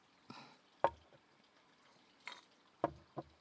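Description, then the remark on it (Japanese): Ice cubes squeak and crack in a glass of carbonated juice, a handful of short, sharp chirps spaced a second or two apart over a faint, crackling fizz, quiet. “氷の音キューキューいうの聞こえますよね。”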